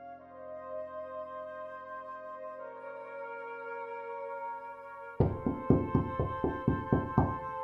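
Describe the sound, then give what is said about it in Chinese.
A steady musical drone plays, then a rapid series of about nine loud knocks on a door bursts in over it, evenly spaced and insistent: police knocking at a home on the evening of the third day of the Lunar New Year, 2003. “2003年大年初三傍晚，随着一阵敲门声，闯进来十多个警察，二话没说，架起我就推进了警车，随后是抄家。”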